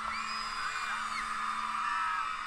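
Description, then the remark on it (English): A dense crowd of fans at a concert screams continuously at high pitch, many voices shrieking and whooping together in a sustained wall of excited noise that barely dips across the few seconds. “Listen to those screams.”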